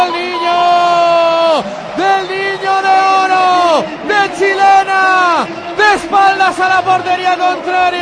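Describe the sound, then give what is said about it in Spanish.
A packed crowd of Atlético de Madrid fans at the Calderón stadium chants a player's name in loud unison after an equalising goal against Celta de Vigo, the long drawn-out call rising and falling in repeated waves, with a roaring hum of voices behind it. “Estaba muerto, pero miren lo que grita el Calderón. Torres, dice el Calderón.”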